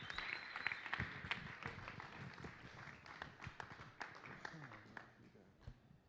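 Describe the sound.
An audience applauds with a dense, steady patter of many hands clapping, mixed with scattered voices, and the clapping gradually thins out toward the end.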